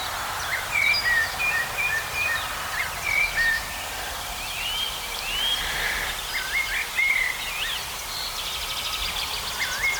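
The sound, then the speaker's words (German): A European robin sings in autumn, a steady stream of thin, high, warbling phrases with brief pauses between them, against a low, constant rumble of road traffic carried through moist air. “Allerdings, wenn wir mal vor eins um Rotkehlchen genau stehen, dann wird es ziemlich schnell klar.”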